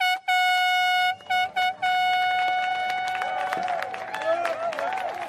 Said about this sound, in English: And with that sound of the horn and the cheers of loved ones, a fleet of boats carried away nearly 30 teams of competitors in what has been called the world's toughest row.